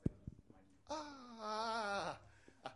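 A newborn baby lets out a single drawn-out, wavering whimper lasting about a second, moderately loud, with faint room noise and a few soft knocks around it.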